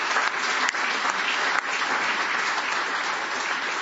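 Loud, sustained applause from a crowd at a meeting, a dense steady wash of clapping that holds at an even level throughout, with no voices standing out.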